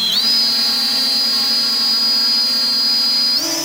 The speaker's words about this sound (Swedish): En liten drönare lyfter mot himlen vid ett övningsfält utanför Karlskrona. Just den här modellen kan bara spana